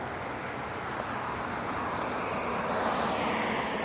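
A steady, loud wash of street traffic noise, a broad rumbling roar that holds constant for a few seconds and swells slightly toward the end, with no voices.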